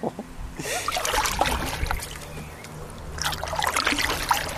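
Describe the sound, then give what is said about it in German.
A boat being paddled through water toward the Moltkebrücke, with two bursts of splashing and swishing strokes separated by a calmer stretch, over a low steady rumble. “So, und wir paddeln jetzt los Richtung Moltkebrücke.”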